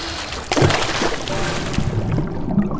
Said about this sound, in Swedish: Och släpp inte taget. Då åker du rakt ner i Karmafallet. Vattnet. Det suger runt fötterna. Det kittlar.